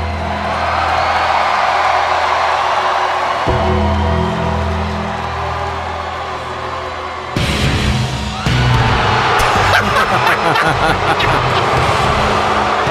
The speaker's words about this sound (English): So, here is the crowd's reaction as Undertaker was being cheered, and then Roman Reigns comes out the ring.